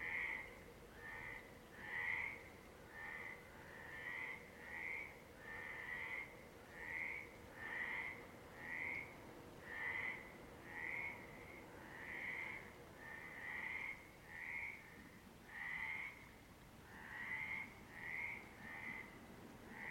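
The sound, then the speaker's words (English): Frogs croak at night in a steady, repeating chorus, with short raspy calls overlapping in quick rhythm over a low, constant background rumble, clear. “I know this, and the frogs know it.”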